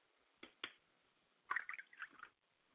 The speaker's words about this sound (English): And as we pour libation to our higher self, Ola Dunmare, who is our higher self, we say Ashe. I like to pour libation to my father's spirit, O Batala, and I say Ashe.